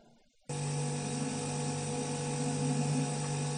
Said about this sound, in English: Case in point, take your common air conditioner or refrigerator buzz.